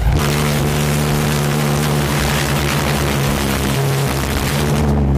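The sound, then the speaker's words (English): Two small engines roar loudly and steadily, a dense buzzing drone with a strong hum underneath. Near the end the sound briefly sags and shifts as one engine flames out and the other sucks in its flames. “Like in this clip, they both started well until one of them flamed out. And then look how the other one sucks in the flames.”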